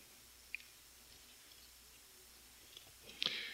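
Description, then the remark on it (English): Snowflakes falling lightly on a down parka in winter silence on December 31st, approaching midnight: a near-silent hush broken by a few sparse, tiny ticks, then a slightly fuller soft patter and rustle right at the end. “December 31st, approaching midnight, silence, the sound alone of my down parka being lightly fallen on by snowflakes.”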